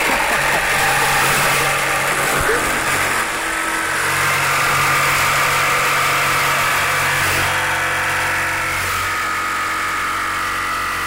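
A jigsaw runs loud and unbroken while cutting a round piece of plexiglass: a steady, harsh motor whine with a low hum, shifting slightly in pitch with a few brief bumps.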